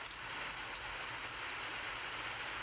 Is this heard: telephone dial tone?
no